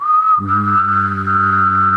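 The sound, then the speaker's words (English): A steady, sustained mouth whistle on one pitch, joined after a moment by a low hummed vocal tone underneath, both held together clearly for a couple of seconds. “Either blow or whistle. Add in the vocal sound.”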